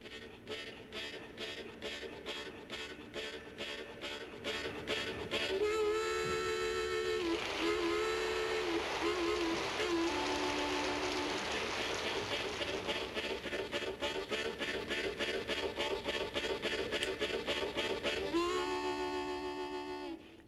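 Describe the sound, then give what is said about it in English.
A harmonica imitates a train coming down the tracks: rapid, steady chugging breaths punctuated by long wailing whistle-like notes, played loud with no talking. “Hearing the train come down the tracks.”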